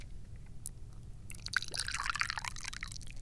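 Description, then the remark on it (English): Tea pours steadily into a cup, starting after a brief pause and running as a bright, splashy trickle for about two seconds over a low background hum. “Pour some more tea here.”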